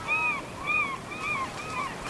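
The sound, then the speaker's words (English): Gulls calling on an island in a steady series of four harsh, nasal cries about half a second apart, fairly prominent over faint background noise, with no one talking. “One of the recordings has gulls in the background, and so you're hearing these really obnoxious gulls, really loud.”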